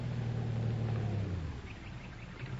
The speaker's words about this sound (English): Oh, hey, here comes a car. Oh, you get out in the road and flag it down.